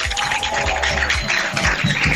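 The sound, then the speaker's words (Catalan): Inside a bus carrying Senglars de Torroella supporters from Torroella to the Camp de la Fuixarda in Barcelona, a loud, dense, continuous din fills the air, with a low rumble underneath and repeated heavy thumps pulsing through it. No single voice stands out. “Aquest és l'ambient que sonava a un dels autobusos dels Senglars de Torroella quan feien camí cap al Camp de la Fuixarda de Barcelona.”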